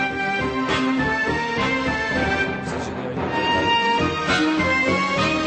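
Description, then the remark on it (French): The Jaws (Les Dents de la Mer) film melody, with its first notes cut, played three semitones higher than the original: a dense orchestral passage of sustained harmonic notes at a steady, fairly loud level throughout, with no voices. “Vous coupez les premières notes et vous changez un petit peu la tonalité.”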